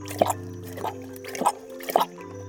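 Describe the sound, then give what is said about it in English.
Water drips steadily into a water hole, four clear plinking drops about half a second apart, moderately loud over a low, steady background hum. “Ah, here's a nice water hole.”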